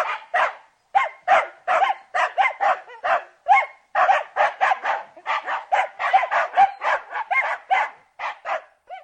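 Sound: dog barking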